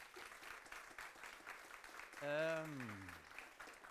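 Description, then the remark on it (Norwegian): A crowd applauds a speaker at the end of a talk, clapping steadily throughout, a dense crackling patter of many hands, and midway a single voice rises over it with a loud, drawn-out call that slides downward in pitch. “Tusind tak skal du ha. En applaus.”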